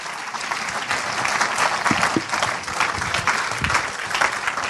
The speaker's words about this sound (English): So let's just give them a huge round of applause. They take their seats. Thanks, guys.